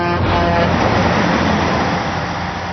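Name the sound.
truck driving past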